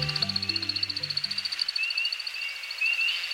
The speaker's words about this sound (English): As the sun sets on a northern Midwest forest, we hear a most peculiar sound. It's an American woodcock aloft on a courtship flight.